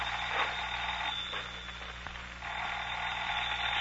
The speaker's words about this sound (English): Say, isn't that your... Yeah, the phone.